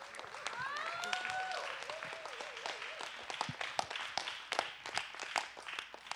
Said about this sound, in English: Let's give her a big hand of applause.